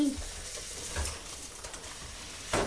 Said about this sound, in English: Well, I'm going to put some milk on my cornflakes, but cornflakes don't sound the same, do they?